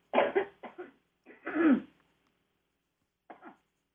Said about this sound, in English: I have to cough.